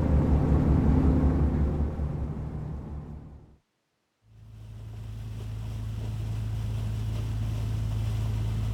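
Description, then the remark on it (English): A loud ferry engine judders, droning and throbbing low over rushing wind and water noise on a crossing of the Scar, heard from the outer deck, briefly cutting out to near silence before the heavy rumble picks up again and holds steady. “I stood for the whole crossing on the outer deck, between the two seating areas at either end of the boat. The engines juddered.”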